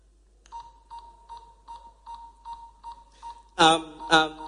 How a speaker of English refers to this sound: Start the buzzer.